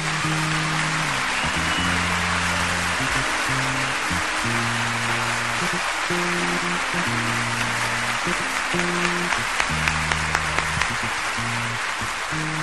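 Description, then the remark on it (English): A large crowd at the Olympia in Paris applauds the Olympia orchestra steadily for the whole stretch, a dense, crackling wash of clapping, while the band plays low sustained chords underneath. “Avant de finir, je voudrais bien que vous fassiez un grand applaudissement pour la belle orchestre de l'Olympia de Paris, que c'est magnifique, s'il vous plaît.”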